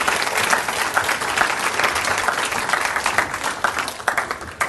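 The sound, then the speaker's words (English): A crowd applauds steadily for several seconds, a dense, even patter of many hands clapping at once, fairly loud throughout with slight swells and no voices standing out. “Can we have a round of applause for our Elisha?”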